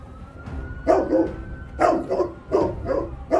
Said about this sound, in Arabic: ادي الكلب ومرر على الناقلة في كل أجزائها. تمام يا فندم. هذا من الكلاب المدربة على التعرف على المخدرات.